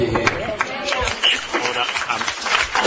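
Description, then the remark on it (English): Applause from the public gallery at a Senate committee hearing on a bill: a dense, steady patter of many hands clapping for a few seconds, with murmuring voices mixed underneath. “I'll ask witnesses and people in the gallery to just keep order as best we can, and there's no need for applause and the like.”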